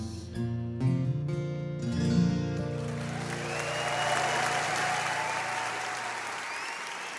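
A song closes on sustained, ringing notes, and then steady applause from an audience swells up and continues at an even level as the music fades out beneath it.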